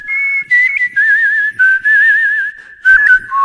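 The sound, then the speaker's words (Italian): A person whistles a bright, warbling birdlike melody imitating the canary Arturo, with sustained trilling notes broken by short pauses, clear with no talking. “Ti farò fischiare come lui.”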